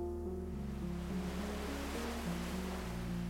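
Ocean waves wash steadily onto a beach in the morning in a continuous soft roar, with low sustained musical tones humming quietly underneath and no voices.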